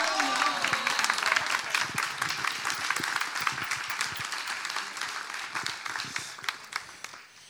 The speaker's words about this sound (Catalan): Tercer premi, Jani Omarty, d'Arts Escèniques. Lliura el premi, Elena Ferrer, presidenta de la Societat Recreativa El Retiro. Un fort aplaudiment.